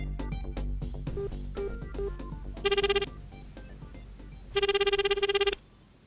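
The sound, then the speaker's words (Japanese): A phone rings out in two clear bursts of rapid electronic trilling, separated by a short pause, over a soft background of music, as an outgoing call is placed. “ヤマトも道連れにしてやる。電話電話。”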